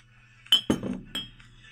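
Drinking glasses of alcohol clink together in a toast, three bright, ringing taps in quick succession, fairly loud over a faint low hum, with no talking.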